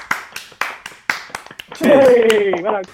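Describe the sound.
A brief round of applause: a handful of sharp, loud hand claps in a loose, uneven rhythm for under two seconds, then a voice starts talking as the clapping stops.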